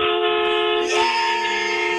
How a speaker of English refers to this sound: I think if you're by your truck, if you could sound off the horn for him, that'd be awesome. I got you.